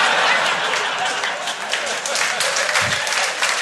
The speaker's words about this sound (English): Honestly, wasn't expecting an applause break.